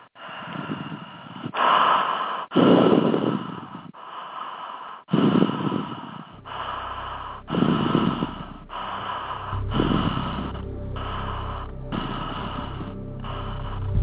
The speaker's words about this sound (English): Now to amp up the energy, let's begin by breathing in a connected manner.